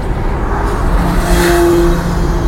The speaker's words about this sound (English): Motorbike's charging past us here. Going westbound on the A303.